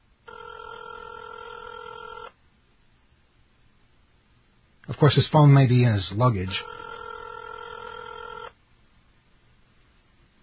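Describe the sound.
A phone ringing on an outgoing call: two long steady ringback tones with a pause between them, fairly loud and clear, while a man speaks briefly over the start of the second ring.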